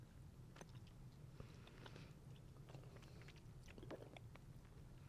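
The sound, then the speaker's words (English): Wet chewing of a soft, sticky Hi-Chew candy, with repeated smacking and squishing mouth sounds over a steady low hum, no talking. “Okay, we're going for the High Chew.”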